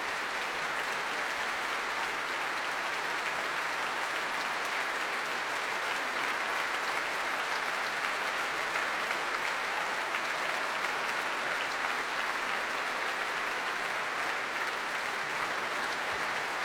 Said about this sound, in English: Nikolai Znaider applauding the audience now and giving them a cheerful thumbs up.